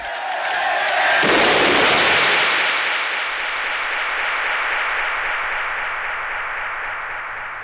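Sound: gunshot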